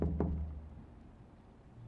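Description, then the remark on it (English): Two quick, solid knocks on a neighbor's wooden front door at a house in town, fairly loud, followed by a quiet stretch with only a faint low background hum. “knocks on the door of his neighbors”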